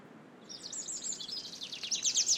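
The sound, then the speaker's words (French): A Eurasian wren sings a rapid, high-pitched run of trills and twittering notes that grows louder toward the end, heard outdoors over a soft low background rumble with no talking. “Là, on entend un troglodyte mignon, là.”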